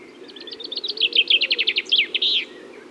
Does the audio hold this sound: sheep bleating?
no